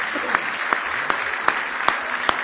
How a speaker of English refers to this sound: Somebody say praise the Lord. Now give the Lord a big hand clap of praise this morning if you love Him.